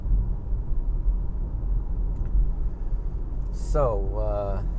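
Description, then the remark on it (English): A car engine rumbles low and steady from inside the vehicle as it slows for a quick stop and the gear shifts down, with a person's voice briefly rising over it near the end. “Did a little shift change, gear shifted down, and there she's off.”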